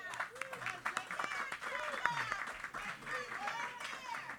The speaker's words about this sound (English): A lot of applause for that one.